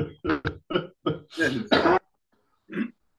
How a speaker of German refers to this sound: ich huste und du bist krank. Das ist interessant, oder? Ja, ich habe auch gehustet